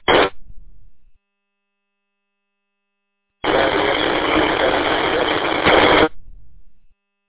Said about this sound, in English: No copy station. I heard some static and a faint voice. I couldn't make anything out.